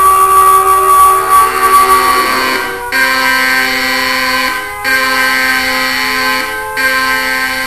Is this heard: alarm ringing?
yes